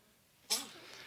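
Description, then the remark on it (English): A young boy, the speaker's grandson, sneezes once, a short, sharp burst with a brief breathy tail, fairly quiet against a faint background hiss. “bless you, my grandson.”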